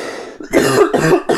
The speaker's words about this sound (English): Oh, I'm going to cough.